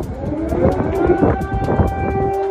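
air raid sirens wailing

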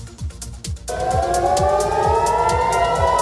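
air-raid siren wailing

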